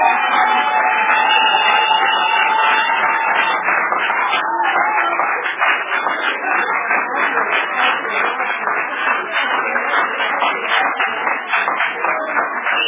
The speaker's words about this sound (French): Quand vous avez applaudi pour les chrétiens